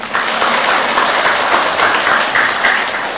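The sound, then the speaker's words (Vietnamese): Steady applause from attendees of a Buddhist retreat after being offered a gift of teaching VCDs, a dense, continuous patter of many hands clapping at an even loudness for a few seconds, with no voices over it. “Có quà cái vỗ tay à.”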